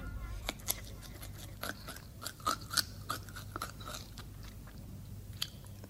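Crisp, crunchy chewing of a hare eating cabbage: a steady run of irregular bites and crunches over about six seconds, fairly quiet, with a low hum underneath and no talking.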